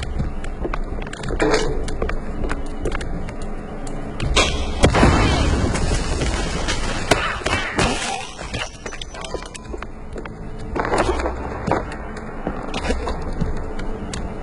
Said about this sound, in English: Pretty sure the fire department frowns on stuffing firecrackers into wooden attics.